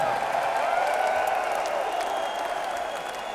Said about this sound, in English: But give your hand, give yourselves a big round of applause, please.